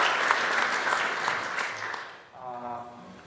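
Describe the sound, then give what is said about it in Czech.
A crowd of people claps steadily to congratulate two people being sent as missionaries to Neveklov, a dense crackle of many hands that fades after about two seconds, and then a voice starts to speak. “ještě musíme určitě poblahopřát i naším potleskem.”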